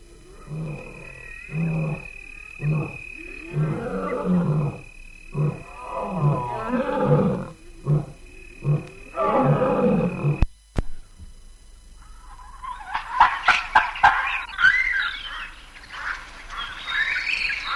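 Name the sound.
lion roaring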